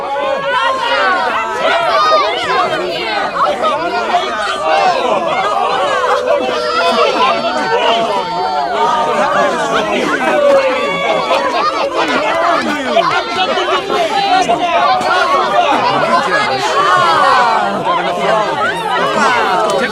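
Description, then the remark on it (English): Overlapping voices of a gathering crowd at a house, many people chattering at once, a steady, loud babble of conversation filling the whole clip without pause. “… and … greet a gathering crowd.”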